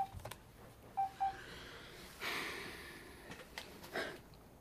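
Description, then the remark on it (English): A few short electronic touch-tone beeps as a telephone number is dialed, in a quick irregular sequence. A soft breathy rush and light handling noises follow, with no one speaking. “Get Kate on the phone and get some answers.”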